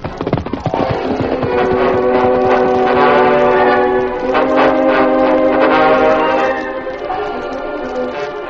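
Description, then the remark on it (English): A work train's horn blares in a long, sustained chord over the low rumble of the approaching train as it comes to a siding, loud, holding steady before easing slightly near the end. “Sounds like the work train coming now, Lou.”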